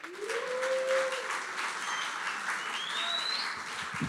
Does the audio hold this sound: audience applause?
yes